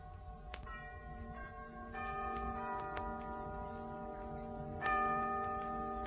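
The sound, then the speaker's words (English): A clock chimes the hour, several resonant bell strikes spaced a second or two apart, each ringing on and overlapping the next. The tone is clear, with no voices. “The clocks, they still go on.”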